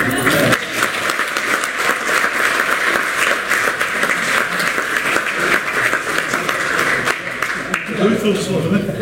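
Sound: applause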